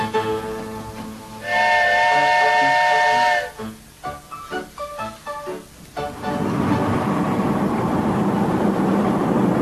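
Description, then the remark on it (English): A steam locomotive whistle, blown in a distinctive way by the engineer Casey Jones, sounds a sustained, loud harmonic note for about two seconds, followed by rhythmic chuffing bursts, then a continuous roaring hiss of steam, with no one speaking. “Because of the distinctive way he blows his engine's whistle.”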